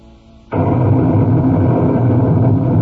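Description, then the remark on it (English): After a half-second of low, steady hum, a deep roar of thunder breaks in abruptly and keeps rumbling loudly and evenly to the end, heavy in the low register. “There must be a storm coming.”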